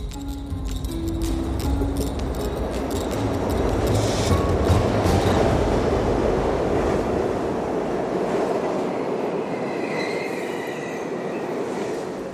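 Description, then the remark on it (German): A subway train rumbles through the Turmstraße underground station in the Moabit district, its steady, loud roar filling the space with metallic rattling and brief high-pitched wheel squeals. Nobody speaks. “Jetzt komme ich gerade aus dem U-Bahnhof Turmstraße raus, im Bezirk Moabit.”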